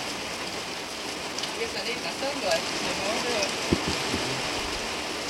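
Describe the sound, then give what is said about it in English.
A quick, passing rain shower hisses evenly throughout, with scattered drops pattering and a few low thumps near the end. “Quick shower. Just a quick shower.”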